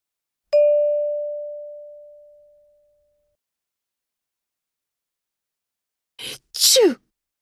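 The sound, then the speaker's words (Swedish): A single bell chime rings and fades slowly, followed after a long silence by a sharp human sneeze from a person allergic to pollen while plants are in bloom: a quick inhale, then a loud burst. “Prosit!”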